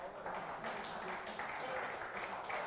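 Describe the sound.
A crowd applauds steadily as the men are called on to applaud the women, a dense wash of many hands clapping at an even, fairly loud level, with some voices mixed into the noise.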